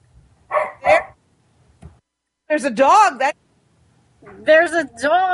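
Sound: dog barking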